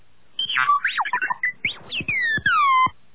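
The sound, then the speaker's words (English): A robot named Tonin beeps a question in a quick burst of electronic chirps and whistling sweeps, ending with two long, bright tones gliding downward. No one speaks. “Tonin beeped a question.”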